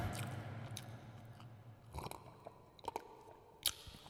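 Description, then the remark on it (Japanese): Wet chewing with intermittent soft crunches and squishy bites, steady for several seconds with a few sharper clicks near the end; no one speaks. “さあ、もぐもぐタイム終わりましょう。”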